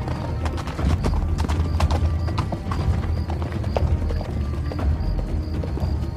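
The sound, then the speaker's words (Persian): Horse hooves clip-clop in a steady, uneven rhythm of sharp clicks over a constant low rumble as Siavash rides toward Tajrish, with a faint whinny-like tone now and then and no talking. “سیاوش از اسب پیاده میشه و اسبشو به سنگی میبنده.”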